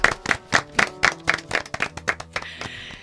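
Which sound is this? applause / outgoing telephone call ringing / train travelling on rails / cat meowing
applause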